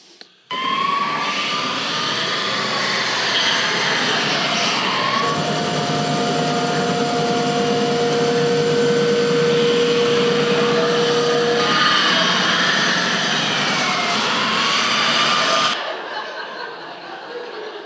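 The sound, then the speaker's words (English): A loud, steady roar of revving car engines fills a police chase in Saskatoon, Canada, from a Canadian Midas tire commercial, with wailing siren-like tones rising and falling over it. It cuts off abruptly near the end. No one speaks. “Police car chase, Saskatoon, Canada.”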